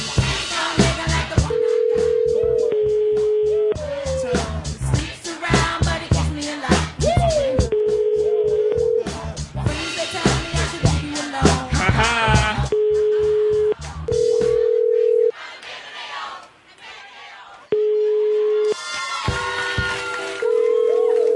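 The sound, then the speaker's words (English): Telephone ringing tones sound again and again in steady bursts over about twenty seconds, layered over a dense, busy wash of crowd-like chatter and clatter that thins out near the end. “Okay, a lot of ringing.”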